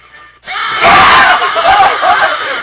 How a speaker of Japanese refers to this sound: ちょっと音でビビってもうた。音でびっくりしてもうた。 ちょっとね、僕らの叫び声も大きくてね。